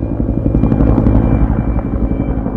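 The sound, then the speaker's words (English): A Cobra military helicopter thunders overhead over Dahana, backing up troops fighting Taliban militants, its rotor thumping in a fast steady pulse with a deep engine roar, loud throughout. “Cobra helicopters and other military aircraft provide backup to the troops.”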